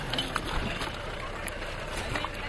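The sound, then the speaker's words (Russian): A small boat being held in the water rocks with a steady wash of splashing and lapping, fairly loud, while faint voices murmur in the background. “здесь лодку держи”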